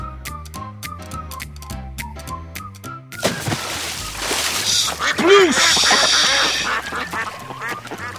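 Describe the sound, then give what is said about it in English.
A bright musical passage gives way to a splashy burst as Big Cousin Bull, a bull, lands in a duck pond. Then several ducks quack loudly and excitedly while light music keeps playing underneath. “Down came Big Cousin Bull in the duck pond.”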